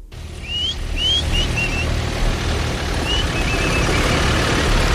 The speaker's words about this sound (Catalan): El moment en què arribava a Lleida la columna de tractors que ha sortit aquest matí de Girona i que se'n va cap a Madrid.